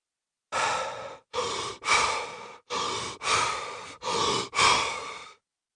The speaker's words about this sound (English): And now, start the power breathing.